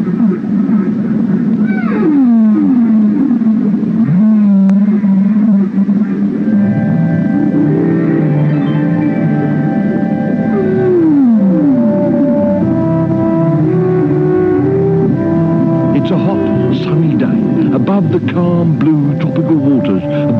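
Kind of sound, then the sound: animal, humpback whale song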